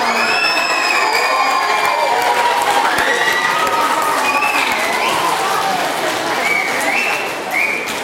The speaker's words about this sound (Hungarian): Tapsoljuk meg ezt a két csoportot is.